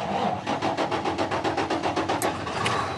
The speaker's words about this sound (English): He's starting the engine of his shiny new big rig, which he drives for a living, score one for jobs. He uses it to haul containers of stuff made in China from the ports out to warehouses, where they're sent to stores and sold to us.